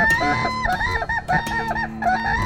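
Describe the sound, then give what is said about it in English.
Loud, harsh bugling calls from whooping cranes, North America's largest bird, several overlapping honking notes repeating in quick succession across a couple of seconds, continuous with no talking. “The call of the whooping crane may not be the most beautiful bird song you'll ever hear, but it is music to Leanne Lynham's ears.”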